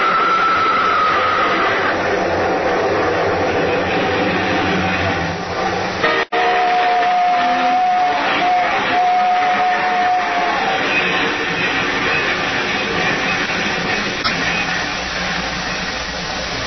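A long, loud train roars past in a steady, heavy rumble, its whistle sounding briefly at the start and again in a sustained blast midway through.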